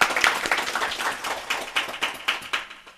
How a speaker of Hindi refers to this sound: आप लोग तालियों से इनका स्वागत कीजिए।